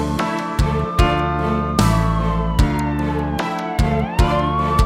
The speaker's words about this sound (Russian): Кричала шухер я, как слышала сирену, и Бобик мне дорогу преградил.